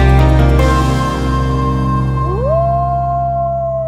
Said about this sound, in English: The howl of the wolf isn't heard as much as it used to be, and as a result, prey like moose, deer, and elk are thriving.